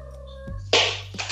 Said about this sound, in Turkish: Ay kedi sesi mi geldi? Evet bizim evimizi biliyorsun bir kedili ev. Ya kedili ev olduğundan dolayı şey kedimiz tam ne denir ona? Üreme dönemine girdi şu an.